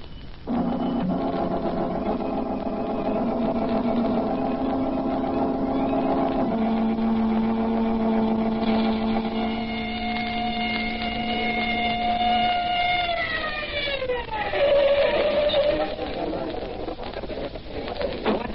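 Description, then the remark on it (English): A police car engine hums steadily, then its pitch drops and winds down near the end as the car slows, with no talking over it. “Come on, I got the police car outside. Let's get going.”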